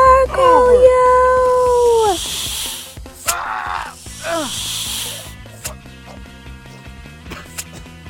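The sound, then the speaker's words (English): A snake hisses in two long, breathy, loud bursts after some wavering vocal cries at the start, with scattered softer rustles and clicks in between. “I thought for a moment Hurley was going to be killed by that snake, but a goose snatched it away from him before flying back to Scarlet”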